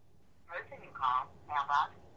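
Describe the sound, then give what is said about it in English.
A few short, thin electronic telephone tones sound in quick succession as a call is dialed to a person's other number, with a low background hum underneath. “So I'm going to call his other number and see if we can get him to call.”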